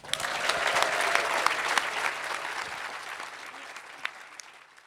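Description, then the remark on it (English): The audience at a BBC Inside Science show at Hay Festival Winter Weekend claps steadily, a dense wash of many hands that holds strong for a few seconds, then gradually thins and fades out, with a few last scattered claps. “Thank you so much to our lovely audience, and also to Miles Jupp and Sophie Scott. Claps all round.”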